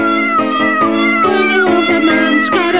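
A cat meows loudly and insistently, its voice a drawn-out, wavering yowl that rises and falls in a near-continuous string of calls with no pauses and no talking.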